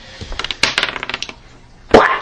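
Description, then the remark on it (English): A quick run of sharp, crackly pops, about a dozen in irregular rhythm, followed after a short pause by one louder, brighter burst that fades away. No one speaks. “You guys hear this nice kind of popping sound?”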